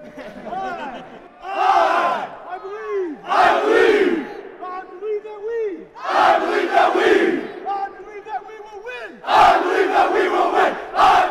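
A group of Air Force cadets in Utah shouts a cheer in loud, rhythmic bursts, many voices rising and falling together in a chant that repeats about four times with short pauses between.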